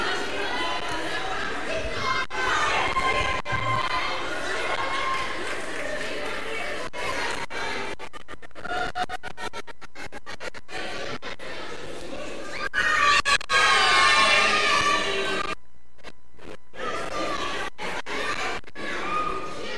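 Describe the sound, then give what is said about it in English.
A group of children cheer and shriek loudly for their teams during a game of passing a hula hoop along a chain of held hands, their high-pitched voices overlapping in a continuous din, with brief lulls partway through and a short pause near the end. “And you need to cheer for your teams.”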